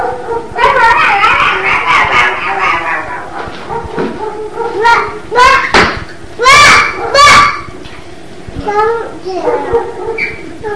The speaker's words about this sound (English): there goes Eugen barking